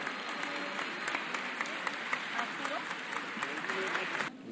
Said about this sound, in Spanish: Le pedimos ese aplauso, por favor.